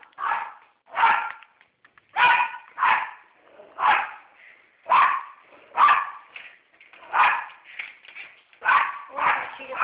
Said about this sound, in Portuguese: Não, minha filha, você desculpa, é que o meu cachorrinho deu sinal que tinha gente na porta batendo.